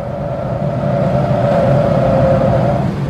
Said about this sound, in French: Et puis ce taxi qui roule pas assez vite.